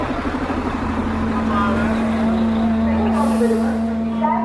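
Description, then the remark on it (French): A large bus engine idles with a steady, droning rumble, and a brief, sharp hiss of air brakes cuts in near the end. Buses from the south of Turkey arrive from all directions at a bus station in Izmir, Turkey, bringing refugees, with background chatter. “On va s'éloigner, il y a des bus qui arrivent de partout.”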